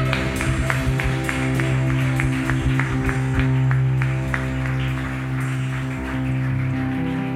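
Audience applause for Jesus, a steady patter of many hands clapping over a sustained, droning keyboard chord that holds underneath throughout.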